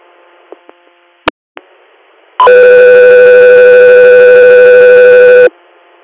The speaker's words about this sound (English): Echo 3, are standby for tones.